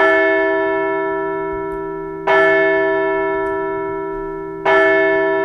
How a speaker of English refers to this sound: Now let's ring that bell.